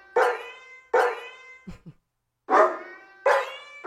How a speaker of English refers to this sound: But this sounds to me like a Casio keyboard that has a dog sound and a cat sound, instead of the actual animals making any noises and them taking the time to put it together.